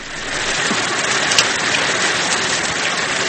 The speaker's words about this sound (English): A steady rain was falling over Britain on December 15, 1944, and it was cold and foggy.